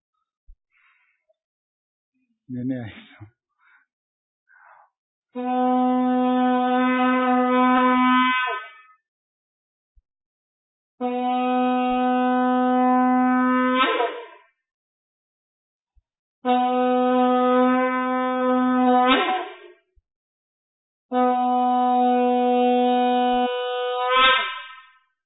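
Four long, loud trumpet blasts, each held steady for a few seconds on a bright, buzzy tone that bends upward at the end, separated by short silences. A few faint handling noises come just before.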